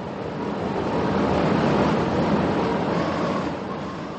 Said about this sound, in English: Hark at the wind rising.